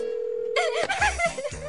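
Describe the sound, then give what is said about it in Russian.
A steady telephone line tone hums for under a second as a tearful wife calls her mother, then gives way to shaky, wavering vocal sounds with breathy bursts into the microphone. “Заплаканная жена звонит своей маме.”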